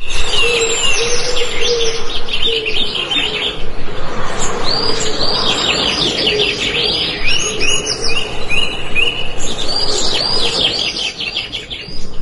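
Nature sounds made up of many birds chirping and tweeting together in a busy, continuous chorus of high trills, with a softer low cooing beneath throughout. No one speaks.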